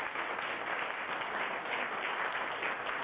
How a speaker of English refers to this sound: A round of applause goes to all the artists that's definitely holding it down on Where They Do That Radio.